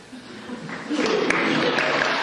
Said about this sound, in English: O'Malley drew applause 8 times from the crowd over the course of the hour.